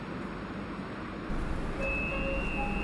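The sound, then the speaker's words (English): A steady low rumble of a train running toward Shahid Hemmat Station, with a faint high whine and a few brief tonal squeals midway, heard from inside the carriage with no talking. “Oh, here I have to get off the train.”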